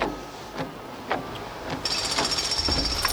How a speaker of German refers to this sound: Während Bob und Justus aus dem Wagen stiegen und den Karton mit dem Projektor entluden, betätigte Peter genervt den Scheibenwischer.